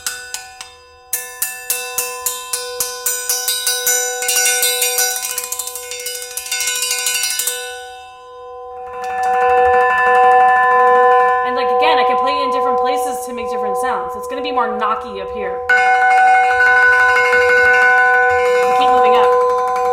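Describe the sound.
Two church or ship bells struck with the wooden part of a mallet in a quick, steady series of sharp hits with bright, sustained ringing tones, then a longer lingering ring as a voice speaks faintly underneath.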